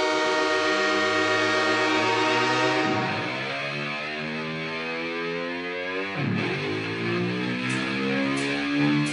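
A loud, sustained train horn blares continuously, its distorted, buzzy tone sweeping down and back up in pitch twice, with no voices.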